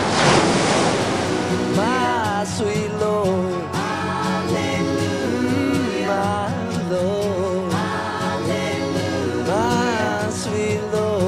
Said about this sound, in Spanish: O el sonido del mar que tanto nos identifica como isleños.